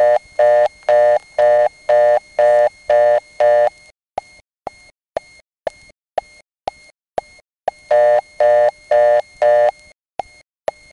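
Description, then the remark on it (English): Pulsing telephone tone bursts give way to a steady series of sharp mechanical clicks from the number one step-by-step switch of the Barry telephone exchange, each click leaving a brief metallic ring. The tone pulses return, then more clicks follow. “That's number one step.”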